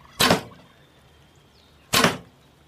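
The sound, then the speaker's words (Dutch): Two sharp whooshes of arrows cutting through the air, each a quick loud swish, spaced well apart with quiet in between and no voices. “En daar vloog de pijl.”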